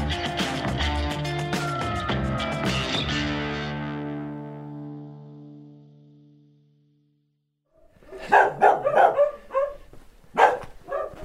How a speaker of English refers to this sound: There goes the silence, eh? I think I've triggered every dog in the village that's left. I'm here in Jardo, a little Portuguese village next to the Coa River, 5 miles from the border of Spain.